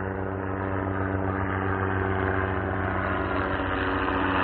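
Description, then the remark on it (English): A helicopter drones steadily with a loud, low engine hum and layered tonal harmonics, growing slightly louder toward the end, with no voices. “Hello, helicopter.”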